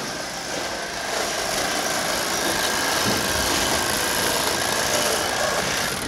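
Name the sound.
saw running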